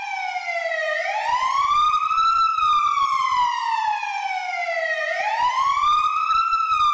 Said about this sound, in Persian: مانلی سوار ماشین آتش نشانی شد و اون رو روشن کرد و بعدش آجیر کشان به سمت مدرسه حرکت کرد.